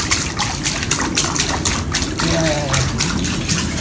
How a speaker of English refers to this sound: I'm down by the lake today, but you hear the water splashing around. Yeah. Yeah. I haven't got put my toes in the water. That was just me putting a stick in the water because it's too cold to put my toes in. But, yay, there's some water splashing.